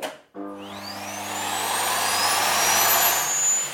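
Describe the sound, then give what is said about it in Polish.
After a brief moment of quiet, a vacuum cleaner switches on with a cotton pad held tight over its suction nozzle, its motor whine climbing steadily in pitch over a loud, broad roar with a low hum underneath. No one speaks. “Musi wchodzić powietrze przez wacik, po czym włączamy odkurzacz.”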